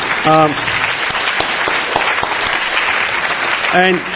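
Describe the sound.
A crowd claps steadily for several seconds, a dense patter of many hands, while a couple of short cheering voices rise briefly at the start and end.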